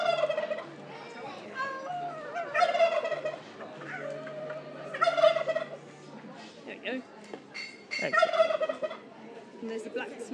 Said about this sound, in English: We'll try and get the turkey to gobble. Gobble, gobble, gobble.